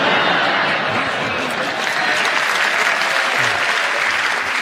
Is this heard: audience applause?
yes